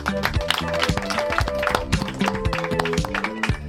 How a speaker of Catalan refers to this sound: Meravella, doncs seguim amb la Marató de Ràdio Ola Maconda, aquesta matinal sensacional, aquest 23 de maig de 2025, i ho fem, rebem amb un super aplaudiment d'acollida a l'Escola La Pau.